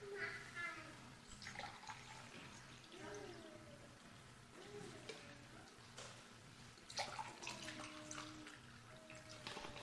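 Water splashes and trickles steadily as it is poured into a glass, with rising gurgling tones over a low background hum, moderately loud for several seconds.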